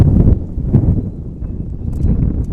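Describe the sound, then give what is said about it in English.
Gusty wind buffets the microphone on a windy day at a baseball game, with a loud, low rumble that surges and dips unevenly throughout, with no voices present. “Colton's long hair hanging out of the back of his batter's helmet, whipping in the breeze here on this windy day.”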